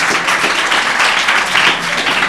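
A crowd applauds steadily, a dense wash of many hands clapping at once, loud and sustained with no voices over it.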